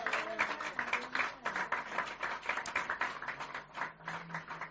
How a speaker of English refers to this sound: Let me hear you clap for this Jesus we are talking about.